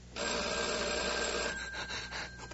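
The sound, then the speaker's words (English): A telephone rings again, its bell ringing loudly and continuously for over a second, a dense metallic jangle, then breaks off and trails into fainter rattling. No one speaks. “The phone. The phone. It's ringing again.”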